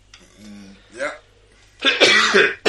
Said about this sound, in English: Yeah. Sorry, I have to clear my throat.